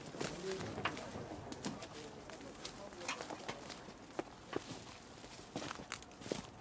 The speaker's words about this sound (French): Je ne sais pas si vous entendez les oiseaux. Peut-être on arrive trop tard pour ça,